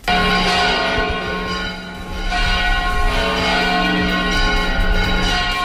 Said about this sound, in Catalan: Aquest és el toc de campanes conegut com a volteig general. Sonava a les 12 del migdia per celebrar que el Papa Francesc ha nomenat el fins ara bisbe auxiliar de Barcelona, Sergi Gordon, nou titular de la diòcesi.